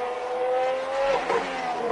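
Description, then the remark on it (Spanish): Fernando Alonso's McLaren Formula 1 car engine roars with a high, sustained whine that rises and shifts pitch as it accelerates, loud, with no voices present, during pre-season testing at the Montmeló circuit in Catalonia. “Ya rugen los motores de la Fórmula 1 en Montmeló.”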